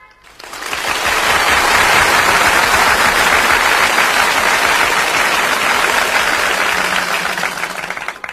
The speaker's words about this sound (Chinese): 听完接应主任的简介，我们的讲座正式开始。下面让我们用热烈的掌声有请接应主任。